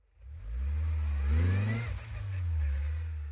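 A car engine hums steadily with a low, rumbling drone, with the air conditioner switched off on a summer day of +32°C. It rises briefly as it revs up and then settles back to a sustained idle. No one speaks.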